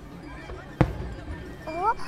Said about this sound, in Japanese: なんだろう、花火、花火あるんだ。いいな。 花火見たい見たい。